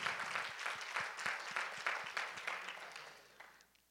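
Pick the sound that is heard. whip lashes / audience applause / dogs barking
audience applause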